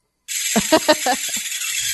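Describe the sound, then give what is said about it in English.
Many water-filled balls bounce over and over on a large frying pan until they run out of water, their rapid impacts blurring into a dense, hissing rattle punctuated by a handful of louder, sharper knocks. “the ball hits the frying pan again on its way down, and the whole thing happens over and over”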